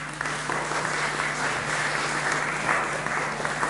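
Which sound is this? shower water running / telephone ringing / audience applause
audience applause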